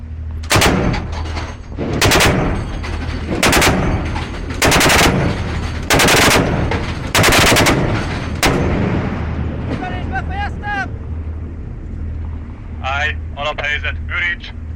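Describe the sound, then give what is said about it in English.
Loud bursts of heavy automatic fire from a quad 20mm cannon installation on the Danube, several rapid volleys in a steady rhythm, followed by shouted voices over a low engine rumble and another short burst near the end. “And if you're wondering how I ended up behind a quad 20mm cannon installation on the Danube, scaring the living daylights out of a bunch of very surprised motorists on a nearby bridge, well, listen on”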